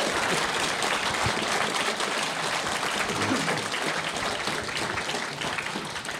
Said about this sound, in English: Well, we're going to give you guys a chance to ask some questions now, but please just give a round of applause to our audience. Thank you very much.